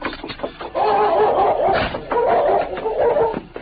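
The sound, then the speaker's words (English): A powerful dog named Chief, outside a house, barks and snarls in two long, harsh, loud bursts with a brief break between them while pulling against the chain that holds him, sounding strained and agitated, with no talking. “Outside the house, the powerful dog pulled against the chain that held him.”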